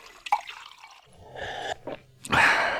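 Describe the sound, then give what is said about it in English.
Liquid is poured from a crystal decanter in a few short, splashy bursts, fairly quiet, with a brief clink, as drinks are poured for three people in a parlor. No one speaks. “Tip led Frank and Claiborne into a comfortably furnished parlor and poured drinks for all three of them from a crystal decanter.”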